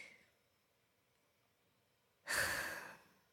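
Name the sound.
heavy breathing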